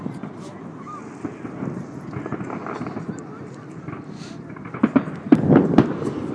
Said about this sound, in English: Don't know if you can still hear that. That's fireworks still going off.